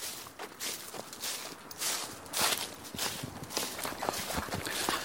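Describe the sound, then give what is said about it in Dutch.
Footsteps crunch and shuffle through loose sand at a steady walking pace as someone climbs up into a dune, each step a soft gritty swish with no voices present. “En dan gaan we echt zo naar omhoog, naar die duin eigenlijk stappen. Het zand in.”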